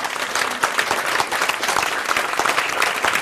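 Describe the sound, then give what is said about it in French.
An audience in Morges claps steadily for an author in a dense, continuous wash of applause, loud and sustained for a few seconds with no voices on top. “que vous pouvez applaudir ici à Morges.”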